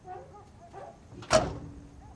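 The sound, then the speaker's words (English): A single sharp clunk as a truck's passenger-side door is swung open, fairly loud, with faint rustling and creaking before it and quiet afterward; the truck is stopped outside a house at night. “He swings her door open and Ronnie steps out.”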